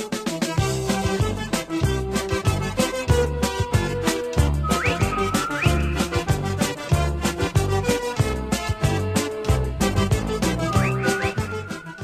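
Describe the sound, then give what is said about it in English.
A bouncy, brisk chicken dance novelty tune plays loudly with a steady oompah beat, and a rising slide whistle swoops up a couple of times over the music. “Well, that and that version is, even for the chicken dance, is especially cutesy with that little slide whistle effect in there.”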